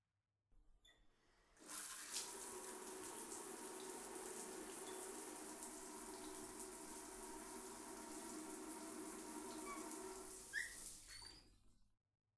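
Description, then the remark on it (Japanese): A shower runs steadily for about ten seconds, a continuous hiss of spraying water that starts abruptly and cuts off at the end, with no voices. “シャワーで流すよ。”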